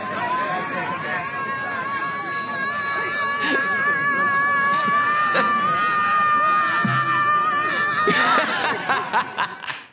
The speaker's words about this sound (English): Now they are gathering to scream at a sky where there is no God, presumably. And I could not help but laugh hysterically at this.